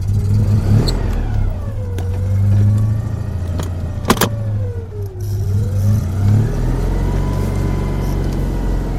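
A Citroën 2CV car engine sputters to life, then revs up and down in uneven waves, with a sharp mechanical clack partway through and a steady throbbing idle underneath.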